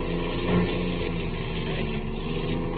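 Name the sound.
car engine running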